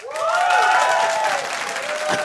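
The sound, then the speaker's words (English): An audience breaks into steady, loud applause for about two seconds to vote for an option, dense clapping mixed with a few high whoops and cheers rising over it. “A round of applause for no, stay away.”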